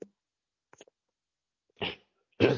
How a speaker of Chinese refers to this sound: 我这两天也是有点感冒加重，咳嗽很厉害，中间可能会有一些咳嗽。